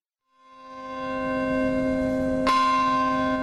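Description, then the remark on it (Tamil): Church bells ring in New York City at a September 11 memorial, marking the moment a plane struck the World Trade Center's North Tower 15 years earlier. A rich, sustained tone swells in, then a second loud strike lands midway and its harmonics hang on, with no voices. “15 ஆண்டுகளுக்கு முன் உலக வர்த்தக மைய கட்டிடத்தின் வடக்கு டவர் பகுதியில் விமானம் ஒன்று மோதிய அதே நேரத்தில் அதனை குறிக்கும் விதமாக நியூயார்க் நகரில் மணிகள் ஒலித்தன.”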